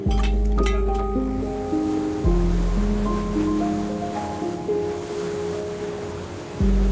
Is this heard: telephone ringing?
no